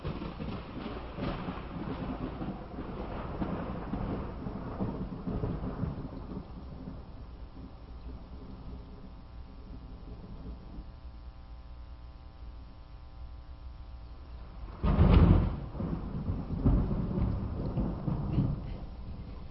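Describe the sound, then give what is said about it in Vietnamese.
Heavy rain pours steadily with low rumbles of thunder, and a sharp, loud thunderclap bursts out near the end before the downpour rolls on. “Phong và Trâm vừa bước lên thềm nhà thì trời đổ mưa to.”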